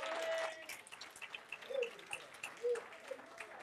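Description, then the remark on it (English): An audience gives a clap of praise for Jesus, a dense, even patter of many hands that fills the whole stretch, with a few brief voices calling out above it. “I think we ought to give Jesus a clap of praise on that.”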